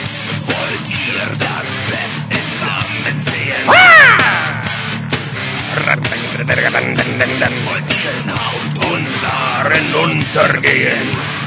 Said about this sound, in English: Lots of screams, lots of anger. Beautiful.